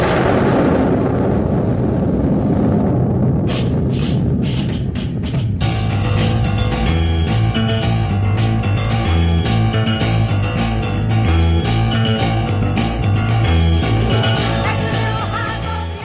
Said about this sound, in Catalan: Aquesta cançó que escoltarem es va enregistrar l'any 1971